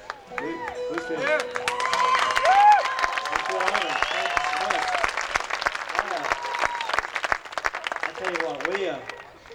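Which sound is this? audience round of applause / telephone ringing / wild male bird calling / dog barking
audience round of applause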